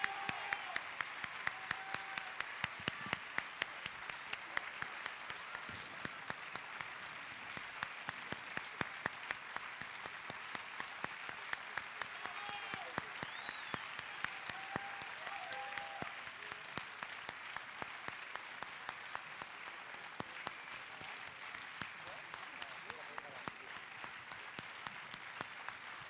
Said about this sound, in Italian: così è un vecchio trucco di uscire sull'applauso tuo per prenderlo anch'io. Ciao. È un vecchio trucco che si usa.